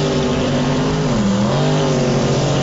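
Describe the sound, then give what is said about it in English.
A loud, continuous engine roar from a Chevy truck with no hood racing in lane one of a drag strip, a steady harmonic drone that dips briefly in pitch, then climbs again as the truck revs hard and accelerates, no voices present. “All right, we got no hood in lane one. Look at that. Chevy.”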